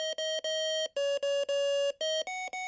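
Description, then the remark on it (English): A hospital bed fall-prevention alarm at Swedish hospital, which goes off when a patient tries to get up, beeps insistently in a rapid pattern of electronic tones, short and long pulses shifting slightly in pitch, loud with no voices. “High-risk patients get special attention, including beds with unmistakable alarms that go off when patients try to get up.”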